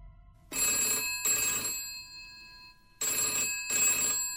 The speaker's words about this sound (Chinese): 还没有等到她拿起电话，电话铃突然地响起来。